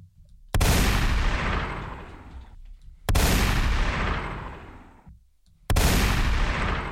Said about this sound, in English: Hit the gun. Where's the gunshots? I'm feeling violent.